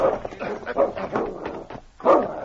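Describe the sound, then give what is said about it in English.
A dog, Great Dog King, barks and growls as he sniffs the ground by a deserted cabin in a canyon: a rapid run of short, rough barks with throaty snarling between them, ending in one louder bark. “He sniffed the ground, barking and growling, then went to the door of the cabin and whined”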